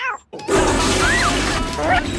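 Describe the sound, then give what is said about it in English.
A toilet in the film Meet the Fockers, flushed by Moses the cat, flushes with a loud rushing roar that kicks in abruptly after a brief quiet gap and churns steadily to the end, with faint vocal sounds over it. “The cat can flush? That's my toilet!”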